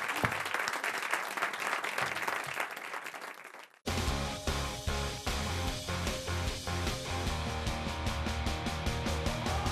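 A studio audience applauds with steady, dense clapping for about four seconds, then the sound cuts abruptly to loud, rhythmic music with a driving beat.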